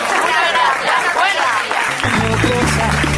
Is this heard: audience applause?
yes